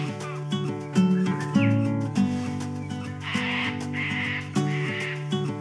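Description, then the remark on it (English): Harsh, squawking Australian parrot calls sound loud, a run of raspy, nasal cries with brief gaps, then a couple of noisier screeching bursts toward the end. “We love living with Australian parrots, both big and small.”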